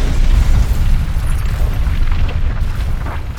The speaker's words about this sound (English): The word plan vanished into a deafening bang. A slender cone of blowback flame shot 5 meters down the corridor, but most of the blast power was focused in the opposite direction. The entire hatch buckled inward